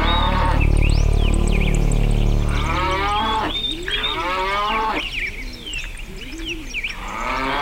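A cow moos loudly in a long, low drawn-out bellow, while birds chirp and sing in the background throughout.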